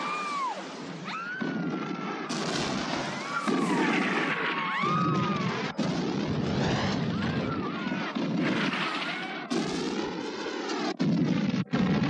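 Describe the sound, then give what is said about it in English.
Repeated heavy explosions boom one after another across a village in Afghanistan in 1981, during the Russian invasion, through a dense, continuous roar, with whining, sweeping jet sounds overhead and muffled voices underneath; the chaotic noise stays loud throughout. “There are explosions all over the village.”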